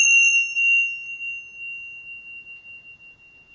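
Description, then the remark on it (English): A single meditation bell is struck once, ringing with a clear high, pure tone and a faint higher overtone, then slowly fading over several seconds with no voices present. “So you can do that either with an om or with a bell at home.”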